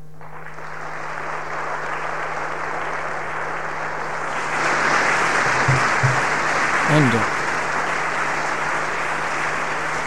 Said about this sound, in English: applause there for Dr. Robert Zubrin, the founder of the Mars Society, and we recorded that at Story Hall at RMIT right here in Melbourne.